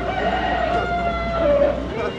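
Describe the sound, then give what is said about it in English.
A trained chicken at the Isle of Capri, in a game with a computer, clucks and squawks in drawn-out, nasal calls over a steady, noisy background hum with faint crowd murmur, lasting a couple of seconds. “What do you think's going on here? You think the chicken's playing? No, the chicken's not playing.”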